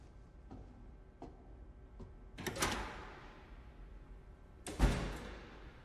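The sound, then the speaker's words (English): A few faint clicks and a rattling swing lead into a door being pushed shut, ending in one loud slam that rings briefly. No one speaks. “Oh, and close the door as you leave.”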